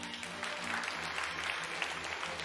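Steady audience applause, a dense wash of many hands clapping at an even level throughout, with a low hum underneath and no voices standing out; an audience clapping in a vote on which newspaper gets the most applause.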